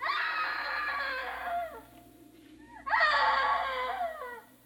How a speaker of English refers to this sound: Dad! Dad! Oh, I know I heard her scream. I know it. Oh, darn, darn, darn. You are there. You are there. Hey, screaming woman.